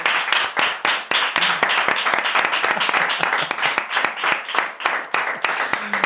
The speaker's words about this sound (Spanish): Porque José Luis Sastre, quiero fuerte el aplauso de todo el mundo, porque este año ha ganado la Antena de Oro.